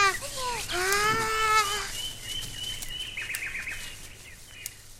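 birds chirping in trees

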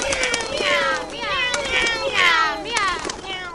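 cats meowing

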